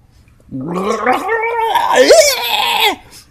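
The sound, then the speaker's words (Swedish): A person gargles coffee while voicing a rising, wavering cry, imitating a newborn's first wail; bubbly and loud, lasting about two and a half seconds before stopping abruptly. “Ja, det var kanske med det här själva hans första skrik, så det var intressant, för jag kan försöka härma det.”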